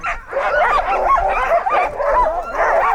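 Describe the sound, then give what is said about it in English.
Nearly 200 sled dogs at a sled dog camp on the Norris Glacier, in Juneau's ice field, bark and yip all at once, a dense, overlapping chorus of excited high-pitched cries that carries on without pause, fairly loud, with no one talking. “It's the Norris Glacier Sled Dog Camp. Each year, from late April through mid-August, nearly 200 dogs from all over the U.S. live on the glacier.”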